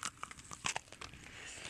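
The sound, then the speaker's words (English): Two people bite at the same time into chocolate-dipped strawberries, one topped with Butterfinger and one with pecans, a quick cluster of crisp, crackly snaps followed by softer crunching, fairly quiet and with no talking. “Sounds kind of crunchy.”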